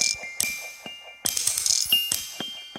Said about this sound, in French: Donc imaginez des hochets, des mobiles de bébés, des petits téléphones à roues qui font ring. Tous ces choses-là, on leur a donné une vie musicale. Hein. C'est la toy musique.